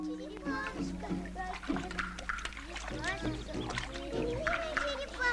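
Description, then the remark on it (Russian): Water splashes and sloshes repeatedly as children bathe a rescued turtle in a rain gutter. Several children chatter and call out excitedly over it, their voices often louder than the splashing. “Дети купают спасенную черепаху в водосточном желобе.”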